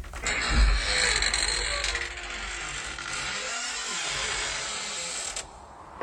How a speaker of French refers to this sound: Oui, je viens d'ouvrir ma porte, hein, en fait.